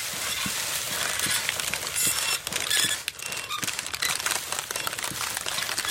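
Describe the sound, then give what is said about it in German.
Plastic crinkles and rustles in a steady, rhythmic pattern, with bright crackling bursts and soft thumps recurring at regular intervals throughout, fairly loud and with no voices. The plastic rustling forms an atmospheric rhythm in a musical piece. “Ja, das hört sich wirklich für mich wie der gleiche Trio und noch ein bisschen mehr Plastik tut, ne, so rascheln dran, bis es wie so Rhythmus, das so ein du bist wirklich so gut.”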